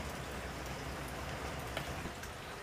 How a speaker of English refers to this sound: It's a whole tropical storm.